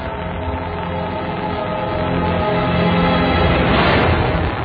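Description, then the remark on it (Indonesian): A motorcycle engine roars steadily on a street, its throaty drone swelling louder partway through as the rider revs it harder, then holding at a loud, rough pitch. “Aku kebutkan motor itu di jalanan karena aku suka suara motor ini.”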